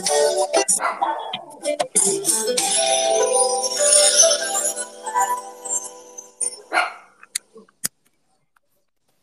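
small dog barking

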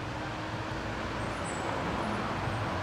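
road traffic

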